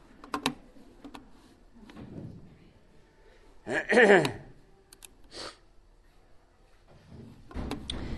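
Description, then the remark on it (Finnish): A door swings shut with a creaking, rattling thud near the middle, set among scattered clicks and knocks with a faint background murmur. “Pankaa se ovi kiinni, ettei se mölinä kuulu tässä sanoa.”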